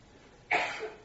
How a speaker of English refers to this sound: Maybe you will hear someone coughing.